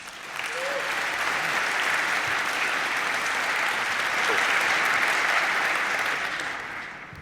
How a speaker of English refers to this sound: Please give them a warm round of applause.